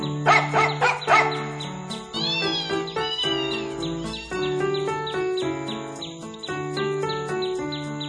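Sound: dog barking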